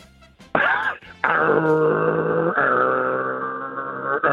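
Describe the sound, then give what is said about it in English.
Prime Minister Scott Morrison imitates a racing car engine with his mouth, a loud, buzzy, sustained drone that stutters at first, then climbs through a couple of gear-change-like pitch jumps for about four seconds. “Do you think you would be better than Bill Shorten at making the sound of a racing car with your mouth?”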